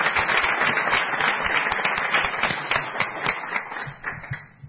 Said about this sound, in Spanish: Pues nos damos un abrazo, se siente un fuerte aplauso para ellos.